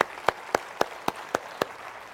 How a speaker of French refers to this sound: Est-ce qu'on peut applaudir ce que Dieu a fait et surtout ce qu'il va faire?